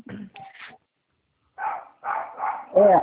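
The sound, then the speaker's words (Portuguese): A dog barks several times in short, separated bursts in the background of a phone call made from a home office, moderately loud, with a longer yelping bark at the end and a few earlier sounds mixed in. “Tem um cachorro aí atrás, o banco tem cachorro?”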